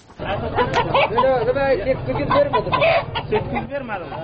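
A flock of domestic egg-laying chickens at a home poultry raiser's in Shakarak village, Sheberghan, Jowzjan province, clucks and squawks continuously, many overlapping calls forming a busy, steady chatter with occasional sharper cries, with no one speaking.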